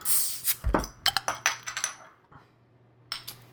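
A beer bottle is opened with a brief hiss, then a quick series of sharp glassy clinks and clatters as it is poured into a glass. Moderately loud, with no talking.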